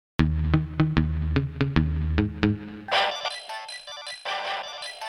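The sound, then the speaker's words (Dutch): A text message (SMS) alert chimes: a quick run of bright, plucked electronic notes, then a busier shimmering jingle, fairly loud with no voices. “van wie is die sms?”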